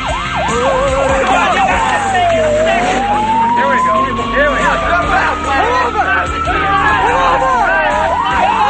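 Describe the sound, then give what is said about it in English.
A siren on a car fitted with an attachable flashing light wails in a slow rising and falling sweep, loud, as the car, filled with men, speeds along the road and pulls alongside a bus, over dense road rumble and traffic noise, with a murmur of voices in the background. “A car with an attachable flashing light and siren speeds along the road.”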